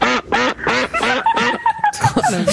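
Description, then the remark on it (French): A duck quacks loudly and repeatedly in quick succession, a rapid run of nasal, raspy calls, with no one speaking. “C'est un canard.”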